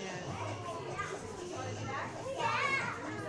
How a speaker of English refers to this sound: This is a bit what it sounded like in the train with all those kids earlier, isn't it?